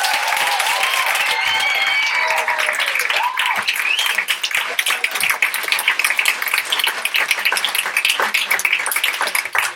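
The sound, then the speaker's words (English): An audience breaks into sustained applause for a panel, dense steady clapping lasting about ten seconds, with a few raised voices and cheers riding over the first few seconds. “Can we give a round of applause to all of you?”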